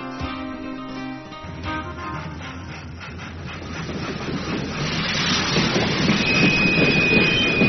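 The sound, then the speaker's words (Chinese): A train rolls along the Turkestan–Siberian Railway across the Kazakhstan desert. Its wheels clatter in a steady rhythm, and the rumble grows louder as it nears. A thin metallic squeal rises toward the end. “横贯哈萨克斯坦荒漠的土耳其西伯利亚铁路通车”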